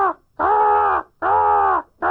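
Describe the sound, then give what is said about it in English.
Young crows that look like adults give drawn-out, nasal begging calls to be fed, each lasting over half a second, repeating in a steady whining rhythm with short gaps between, loud with no talking. “This time of year, during that time of year, you hear especially things like crows incessantly, almost whining and begging and whining and begging.”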